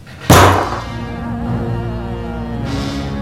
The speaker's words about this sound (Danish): Og han havde sin ene næve knyttet så stramt, at han fik helt hvide knogler. Og så tog han bare lige pludselig og hamrede den her næve ned i bordet.